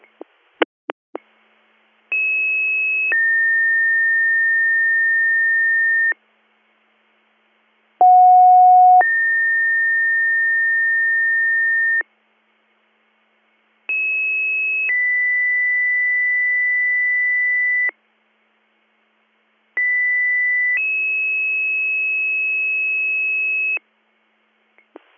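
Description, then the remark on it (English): Four long two-part fire dispatch paging tone sequences, each a short high steady tone stepping to a lower sustained tone, loud and clean with brief silences between, after a few quick clicks at the start; the third and final page for Bomber 21, for a fire alarm at 47 Leisure Drive, White Sox Township. “Bomber 21, third and final page, 15 for the assist.”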